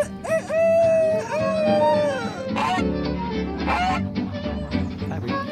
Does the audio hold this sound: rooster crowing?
yes